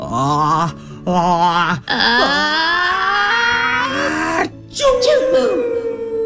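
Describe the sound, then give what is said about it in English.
A voice acts out a big sneeze: several drawn-out, wavering, rising "ah" build-ups, a brief pause, then a loud burst that trails off into a falling tone. “I've got one last sneeze for you, Thule. Are you ready? Because this is the big one.”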